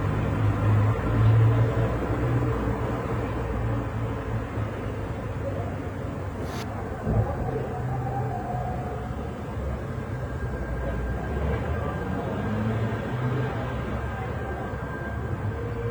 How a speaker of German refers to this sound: Ja, und er wohnt offensichtlich in der Nähe eines Bahnhofs. Jedenfalls hört man hier wunderschöne Verkehrsgeräusche im Hintergrund. Fast erinnert es ein wenig an Weiß-Weißlich von Peter Ablinger.